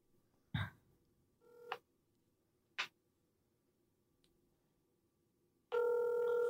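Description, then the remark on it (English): A few sparse taps and short beeps from a phone being dialed, then a steady outgoing ringing tone starts and holds loudly at the end as the call goes unanswered, with no one talking. “Both of them won't answer the phone.”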